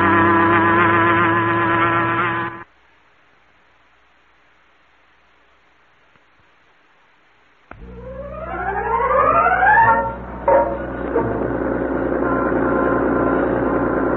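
A loud, steady engine of an old car drones as it is driven through heavy downtown traffic, cuts out into several seconds of silence, then returns with rising revs as it accelerates, settling into a continuous traffic rumble.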